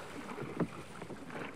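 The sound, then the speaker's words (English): A small boat rocks on the water, with a soft continuous slosh and wash around the hull and one brief knock partway through. No voices; fairly quiet. “This little boat is terrible. I can't control it.”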